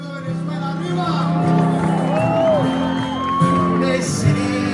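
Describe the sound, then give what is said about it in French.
A vast crowd of hundreds of thousands at a giant concert in Cúcuta, Colombia, roars continuously, with scattered whoops and shouts rising above a dense wash of voices, loud, swelling slightly toward the end. “Là, précisément, où hier soir, des centaines de milliers de personnes ont assisté à un concert géant pour demander au gouvernement de Nicolas Maduro de laisser passer cette aide humanitaire.”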